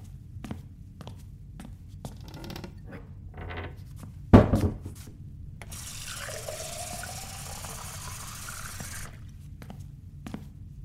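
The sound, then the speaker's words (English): A few soft knocks and a sharp thunk, then a tap runs into a glass for about three seconds, its pitch rising steadily as it fills, with no talking. “All right, let's get you some water.”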